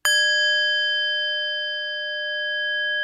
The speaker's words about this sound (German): Jemand bereitet den Altar in der Meditationshalle. Ich verbeuge mich kurz vor meinem Kissen und in den Raum hinein. Jemand schlägt die Glocke. Meditation.